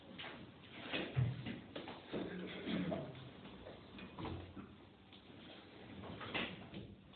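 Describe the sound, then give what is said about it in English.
A sliding door rumbles and scrapes along its track for several seconds, with a few knocks and bumps along the way. It's steady in volume, with no talking. “Given the door, it'll be colder.”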